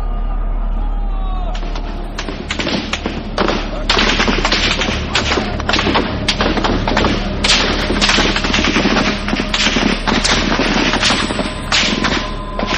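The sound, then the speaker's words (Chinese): Sustained gunfire crackles almost nonstop for more than ten seconds, a dense mix of rapid bursts and scattered single shots echoing loudly, as if from several guns at once, in Beijing through the night as army troops open fire during the June Fourth incident. “北京城彻夜枪声不断，这就是震惊世界的64事件。”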